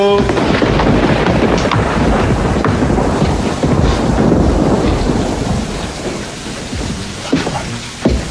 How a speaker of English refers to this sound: Don't worry about the storm.